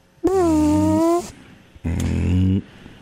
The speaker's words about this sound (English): Yeah, a little gas coming out the ass.